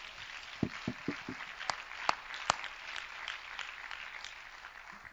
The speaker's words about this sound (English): Praise God, praise God, praise God. I think we ought to clap our hands again to the Lord and give Him praise.